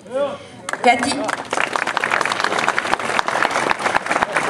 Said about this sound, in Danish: Jeg er altså søde, når I klapper. Det er dejligt.